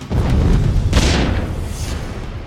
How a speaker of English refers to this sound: Literally, I could feel the vibration in my chest. Two concussion grenades rip through the rear of the store. The blast is designed to distract the gunman.